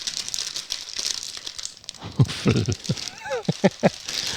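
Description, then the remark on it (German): Crackly crinkling of a silver foil bag being torn open, with a steady rustle building into several sharp ripping bursts, and a brief voice murmuring near the end. “Ich glaube, das ist eine Perforation zum Öffnen, kann das sein?”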